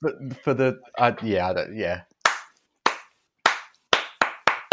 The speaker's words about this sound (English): And the slow clap turns into an eruption.